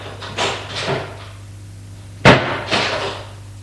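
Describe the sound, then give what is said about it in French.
A bedroom door is handled: a few soft scraping movements, then a sharp knock as it shuts, followed by a brief rustle. “Et on rentre.”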